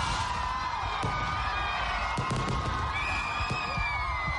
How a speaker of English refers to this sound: The sound of fireworks rippled through the nighttime sky as Ugandans ushered in the new year in the Ugandan capital, Kampala.